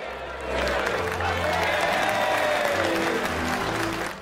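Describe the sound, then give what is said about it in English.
A music hall full of people applauding a female acrobat spinning on a sash, a dense, steady clatter of clapping that swells in quickly and holds for several seconds, with faint crowd murmur mixed underneath. “grins and sits down as she applauds.”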